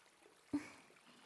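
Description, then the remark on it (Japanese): Shower water runs over hair to wet it before shampooing, a soft, steady hiss, broken halfway through by a brief louder gush or splash before settling back to the quiet flow. No one speaks. “それでは、まずはシャンプーをする前に、シャワーで髪を濡らしていきますね。”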